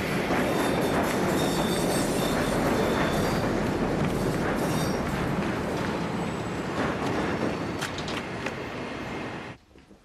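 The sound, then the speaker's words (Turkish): A train rumbles loudly and steadily at a railway station, with rolling wheel noise, metallic clatter and faint squeals, before cutting off abruptly near the end. No one speaks. “Koşarak tren istasyonunun merdivenlerine çıkıyor.”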